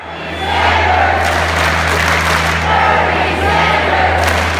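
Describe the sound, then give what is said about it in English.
A large crowd cheers and applauds loudly for several seconds, a dense roar of voices and clapping with whoops rising above it and a low steady hum underneath. “Is how I imagined the crowd would react upon hearing this massive change to American work life that could benefit all of us, not just the few people at the top.”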